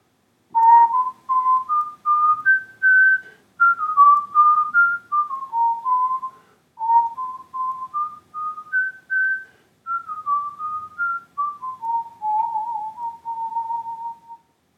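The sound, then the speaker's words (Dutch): A person whistles a flowing melody alone, clear, with pure tones gliding up and down in phrases separated by brief pauses for breath, ending with a small flourish. “Wat is dit voor muziek dat … zo mooi voor ons fluit?”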